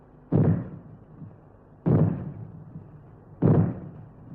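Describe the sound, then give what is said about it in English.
Three loud, heavy bangs, a warning signal that fallout is expected, sound at a steady interval of about one and a half seconds, each with a sharp onset and a short booming decay, with nothing else in between. “When fallout is expected, you will hear three bangs in short succession, like this.”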